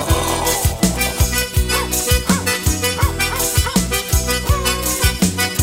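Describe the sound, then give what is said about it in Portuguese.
Several dogs, a pack belonging to Dona Luzia, bark over and over in a loud chorus, the sharp barks overlapping in a steady, busy rhythm with no pause and no one talking. “Eu acho que eu vi o gatinho. Mas isso aqui é cachorro.”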